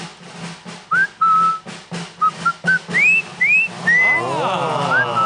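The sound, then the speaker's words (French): Someone whistles a tune in short, clear rising notes, fairly loud over a low background rumble, ending in a tangle of wavering, overlapping whistle tones. “Alors, ressifflez, alors.”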